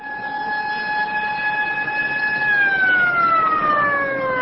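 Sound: ambulance siren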